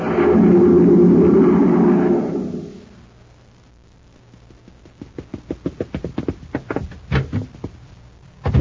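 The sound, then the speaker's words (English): A loud, roaring whoosh like a gust of storm wind, made by a person rushing out the door to the grocery, sweeps through for about two seconds and dies away, followed after a pause by a quick run of clattering taps and knocks. “A cyclone? Just Danny Fields rushing out the door to the grocery.”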